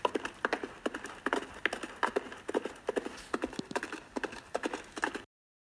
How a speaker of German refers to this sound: Welche den Zuhörern trotz nahegelegener Autobahn eine einzigartige Soundkulisse in Surround Sound bietet. Ein eigenartiges, ja, stampfendes Maschinen-Soundgebilde.